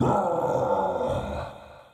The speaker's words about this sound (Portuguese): Segundos depois, o Gil aparece atrás da montanha nevada. O rugido do Gil chega a todos os lados da pequena vila.